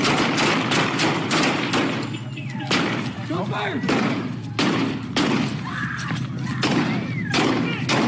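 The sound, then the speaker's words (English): Rapid, irregular bursts of loud gunfire crack back and forth in a crossfire around a stopped car, a dozen or more shots overlapping in quick succession, with voices shouting between and beneath them. “Crossfire!”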